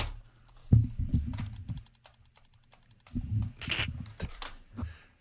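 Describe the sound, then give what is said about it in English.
A computer mouse clicks repeatedly, a quick irregular run of sharp little taps, with bursts of low muffled rumble in between. “Is someone clicking a mouse?”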